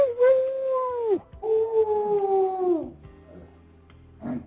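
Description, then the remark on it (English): Someone imitates a dog howling: two long, sustained howls in a steady mid-pitched voice, each sliding downward at the end, followed by a brief quiet murmur. “Thought that was the dog and shit.”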